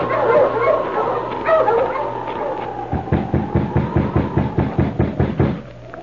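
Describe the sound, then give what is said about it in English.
A team of sled dogs, halted by their driver at an isolated spot surrounded by birch trees, in snow and a fierce wind, yelps and whines excitedly together, then breaks into a rapid, steady run of about a dozen sharp, loud barks. “A week passed, and then, in the early morning, at an isolated spot surrounded by birch trees, a driver halted his team of dogs.”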